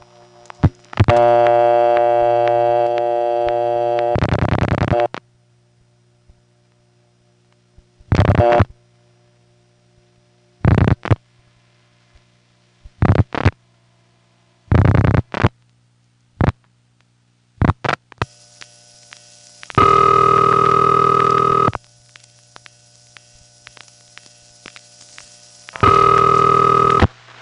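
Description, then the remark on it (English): A steady telephone tone, then a string of sharp mechanical ticks and clacks from a step-by-step office switch, spaced irregularly, as a hunt group connector hunts for an available line after the last digit of a time number is dialed, followed by two bursts of ringing tone. No voices. “Time number is in this step-by-step office, and you'll notice after I dial the last digit, there's a pause and a few extra ticks as the special hunt group connector hunts for an available phone line.”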